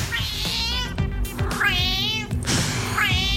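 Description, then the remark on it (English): A cat meows loudly, three long, drawn-out calls with wavering, speech-like inflections that sound almost like a Scouse accent. Steady low background noise runs underneath. “the classic in the genre is the Scouse cat, just to recap that.”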